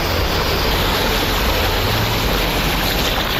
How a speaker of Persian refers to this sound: روزنامه هم‌میهن نوشت که در بندرعباس به دلیل اختلاف ارتفاعی که با زمین‌های بالادست وجود دارد، حتی سیلاب‌های روی تپه‌های شمالی بندرعباس به آبشار تبدیل شدند.